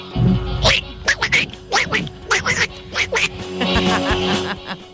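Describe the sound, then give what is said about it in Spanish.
A squawky cartoon-duck voice quacks rapid, unintelligible babble in choppy bursts, loud, ending in a longer raspy stretch of garbled quacking. “la conversación entre Guru Guru y el Pato Donald. ¿Se entenderá algo? No, no se entiende nada”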